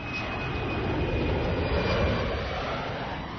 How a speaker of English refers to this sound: A jet engine's roar was a welcome sound in late April as a month-long shutdown of Petersburg's runway ended.